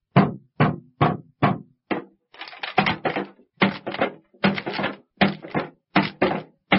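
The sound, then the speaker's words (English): Someone bangs on a ticket machine: five sharp, evenly spaced thumps, then a quicker run of rattling, clattering knocks, all loud with no voices. “You mustn't bang that machine.”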